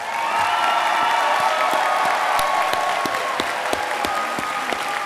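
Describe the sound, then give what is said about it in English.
A crowd in an auditorium claps steadily and loudly for the color guard as it escorts the colors out. Dense overlapping hand claps fill the whole stretch, with a faint high tone and murmur beneath the sustained applause. “And how about giving them a round of applause?”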